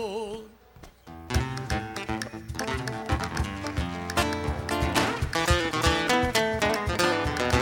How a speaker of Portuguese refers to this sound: Abriu o peito em furor, num relincho de guerreiro, convocando este parceiro pra saltar pro corredor.